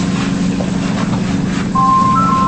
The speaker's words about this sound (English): That's my phone.